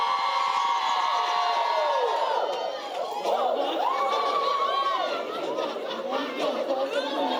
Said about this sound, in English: Let all the women in here lift up a shout right now. All the women.